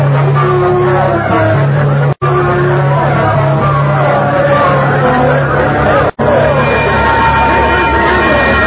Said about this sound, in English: I could hear all the noise and the people milling around. Everything was a jumble at first.